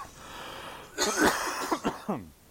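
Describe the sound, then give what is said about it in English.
A fairly loud coughing fit: one harsh burst followed by three or four shorter, quicker coughs trailing off, with no talking. “They totally call it cough.”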